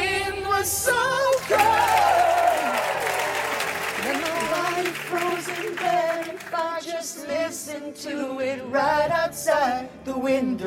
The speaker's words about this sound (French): Voilà, les applaudissements sont ceux du public hein, pendant la diffusion de la séquence dans l'émission.